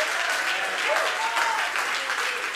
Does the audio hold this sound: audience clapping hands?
yes